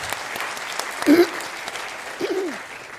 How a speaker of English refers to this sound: Hello, and applause by you to welcome them.